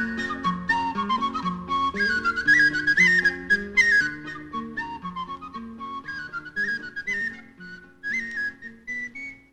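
A tin whistle carries a lilting folk melody with quick ornamented notes, steady and fairly loud, over a plucked accompaniment underneath; no one speaks or sings.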